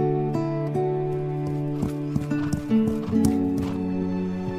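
A horse whinnies with a drawn-out, wavering neigh while hooves clip-clop in an uneven rhythm, clear and fairly loud with no voices.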